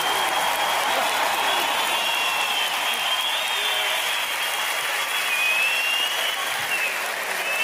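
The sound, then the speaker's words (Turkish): Steady, dense applause from a crowd, a continuous wash of clapping hands that holds at an even, fairly loud level for several seconds with no voices on top. “Evet, alkışladık ama belki de gerçekten yok.”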